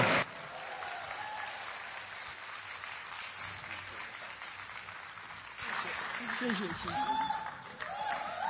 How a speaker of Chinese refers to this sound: 好，热烈的掌声。